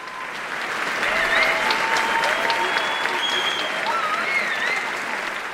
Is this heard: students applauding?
yes